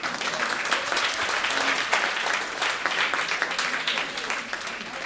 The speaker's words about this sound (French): Qui ici est un souteneur, un abonné de CanadaLand? Bravo à vous! Et ils sont dans la salle, on va les applaudir.